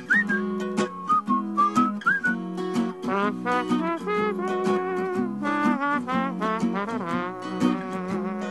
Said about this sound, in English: That's a great song, and I love the way you do it. I love the whistling that little and that little trombone sound that you get at the end there.